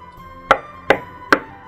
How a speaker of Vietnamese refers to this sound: Tiếng gõ cửa bất chợt vang lên, mọi người im bặt, đưa mắt nhìn nhau, không biết có nên đáp lại hay không.